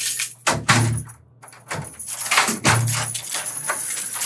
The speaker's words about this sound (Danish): der er mange døre, der skal åbnes og lukkes. Det er der. Hele tiden.